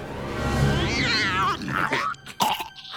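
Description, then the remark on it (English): A young lion cub's roar, voiced by a person: a strained, rising growl lasting about a second and a half, followed by a few shorter rough bursts, fairly loud. “Well, let him have it! Roar, son!”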